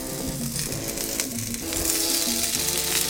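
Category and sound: food or drink, food sizzling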